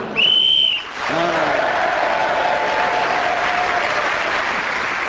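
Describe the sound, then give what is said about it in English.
A single short, shrill whistle blast ends a round of the panel show Just a Minute, then a studio audience breaks into steady, sustained applause that carries through to the end. “Julian Clary getting points in that round, including one for speaking as the whistle went.”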